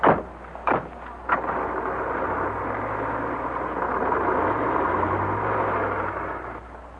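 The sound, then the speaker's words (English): A few sharp car door thuds in quick succession as passengers climb into the car, then an engine revs and the car drives off, a steady rumbling drone with rising gear changes that fades slightly. “Look, if you're going back to your aunt's without shopping, you can come with me. I've got to pass that place anyway. Oh, you mean in the car?”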